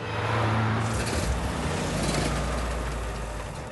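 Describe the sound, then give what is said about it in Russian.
A car engine with a full tank of fuel cranks steadily without catching, a fairly loud mechanical churn with a low rumble that runs for a few seconds and never settles into a running idle. “Почему машина не заводится? У меня полный бак бензина.”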